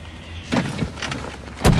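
A man opens his car door: a rattling handle and latch, some shuffling movement, then a sharp metallic clunk near the end. No one speaks.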